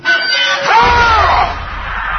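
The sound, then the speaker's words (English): Several people scream together in a loud, sustained burst, with high wavering cries rising and falling over a rumbling, noisy background for a couple of seconds. “So what the hell's that? Screaming practice?”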